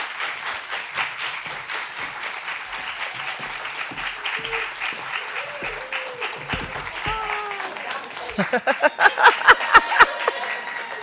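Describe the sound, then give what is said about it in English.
A crowd applauds steadily in a dense, continuous patter of many hands, with a few whoops and cheers rising through it before the clapping swells louder and more distinct near the end, as the audience welcomes back author Kimberla Lawson Roby. “Although we know you're not really clapping for me, it's really for the Reverend Curtis Black.”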